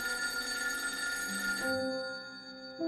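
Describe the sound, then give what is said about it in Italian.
An old-fashioned telephone bell rings with a dense metallic jangle for over a second as Franco Tritto, Professor Moro's assistant, receives a call from Red Brigades member Valerio Morucci, then fades into a ringing tone that starts again near the end, clear with no voices. “Qualche ora dopo, Franco Tritto, un giovane studente di legge che è anche l'assistente del professor Moro, riceve una telefonata da un altro brigatista, Valerio Morucci.”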